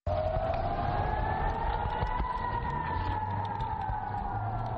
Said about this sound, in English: Air raid sirens and missiles are heard in the skies over Israel as Israeli Defense Forces early Tuesday fired its Iron Dome anti-missile system at rockets fired from Palestine.